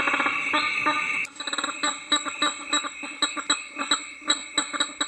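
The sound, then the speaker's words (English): Male prairie chickens in the Midwest, strutting and snorting through enlarged air sacs, call in a loud, busy chorus of nasal snorts and clucking bursts that repeat in a fast, uneven rhythm, opening with a steady, high whining tone. “These are male prairie chickens, common in the Midwest. They're strutting their stuff and snorting through enlarged air sacs.”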